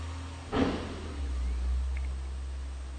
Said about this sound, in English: If you hear background noises, it's a big truck going by.